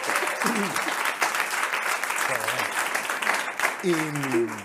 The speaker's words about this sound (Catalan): Molt bé, un aplaudiment, això.